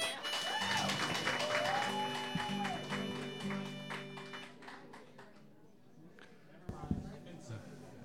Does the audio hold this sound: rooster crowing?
no